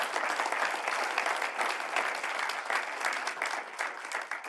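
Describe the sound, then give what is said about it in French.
A crowd claps steadily for several seconds to applaud God during a sermon, a dense, even patter of many hands at a fairly strong level, with no voices breaking through. “Est-ce qu'on peut applaudir ce Dieu qui n'est jamais en retard?”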